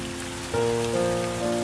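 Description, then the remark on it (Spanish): Steady rain patters on a hard surface throughout, a dense hiss of drops, while sustained musical tones swell in about a third of the way through and hold beneath it. “Llueve. La tarde se destiñe en el espejo.”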